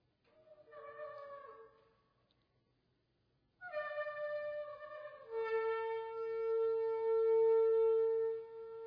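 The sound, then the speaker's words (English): A shofar, a ram's horn trumpet, sounds a short blast, falls silent, then gives a long, loud call that steps down to a lower pitch and holds steady until the end, with no voices. “And the seventh time it happened when the priest blew the trumpet. He blew the shofar. And it sounded something like this.”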